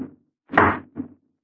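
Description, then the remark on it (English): A locked door is tried: a soft bump, then a loud rattling thud and a shorter second jolt as it holds firm, with no voices. “Now the door's locked.”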